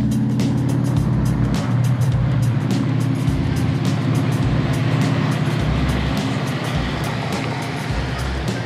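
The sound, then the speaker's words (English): Steady interior rumble of a car driving on the road from Tijuana, heading next to Ensenada: a constant low engine drone with faint ticking and road noise, loud and continuous throughout, with no talking. “Okay, we're back in the car.”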